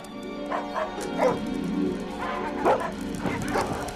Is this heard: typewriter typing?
no